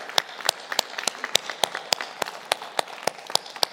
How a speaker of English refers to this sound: These guys give countless hours, and if you can just give them a clap of thanks. Seriously.